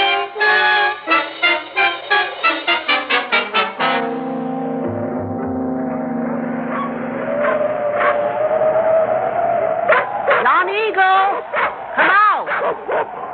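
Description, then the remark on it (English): Several dogs bark in a fast, loud volley at the start, then a steady low hum takes over before scattered yips and whining barks return near the end. “Your dogs, call them off, please.”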